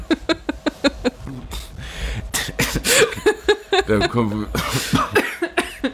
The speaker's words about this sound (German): Da muss ich schon husten, da kommt schon die Idee.